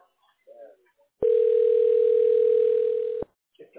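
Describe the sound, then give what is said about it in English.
An electric bell rings in one steady, loud, buzzing tone for about two seconds, starting and stopping abruptly, with brief faint voice fragments just before and after. “Okay, you lost a sale because of that bell, bro.”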